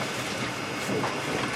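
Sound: train running on rails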